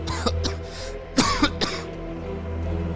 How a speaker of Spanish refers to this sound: Saqué mi celular de inmediato para encender la linterna y la cantidad de polvo enorme que provoqué al entrar me hizo toser.